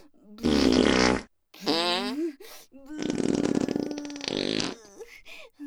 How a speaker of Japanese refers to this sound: ほら、まだまだ出ますよ。こびこびへこき。お願いおなら。